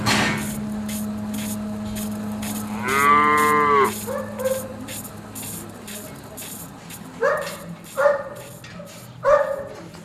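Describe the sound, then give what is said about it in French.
A dairy cow lets out one loud, drawn-out moo, followed by several shorter, fainter calls from a herd of 50 dairy cows at early-morning milking time, all over a steady low mechanical hum. “C'est l'heure de la traite, tous les jours. Aux environs 6h30, 7h, jusqu'à 8h. Voilà. Vous avez combien de vaches ? 50 vaches laitières.”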